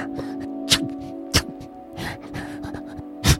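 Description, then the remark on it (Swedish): Soft, rapid huffing breaths from a hedgehog, broken by three sharp little sneezes spaced unevenly, over a faint steady hum. “Utstöter de vanligtvis svaga läten som liknar flåsanden och nysningar.”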